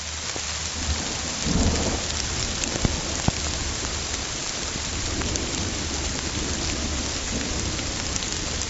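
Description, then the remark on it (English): A steady rainstorm hisses across the whole clip, dense patter with a low rumble of thunder underneath and a few sharper drop impacts standing out. No voices. “So here's an example of geophony. This is a rainstorm.”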